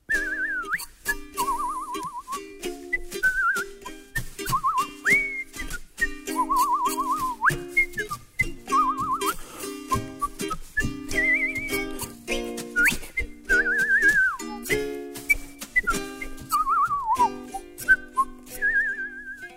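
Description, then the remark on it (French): A cheerful, bouncy tune is whistled in clear phrases with warbling trills, carried over a steady light musical accompaniment for the whole stretch: the little witch Galimatia whistling while she vacuums her laboratory with her magic broom. “Galimatia est une petite sorcière d'humeur toujours gaie, même que, quand elle passe l'aspirateur avec son balai magique dans son laboratoire, on l'entend siffloter.”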